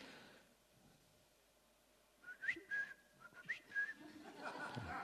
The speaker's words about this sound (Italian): Ma chi è che c'ha un merlo? L'avete sentito o no?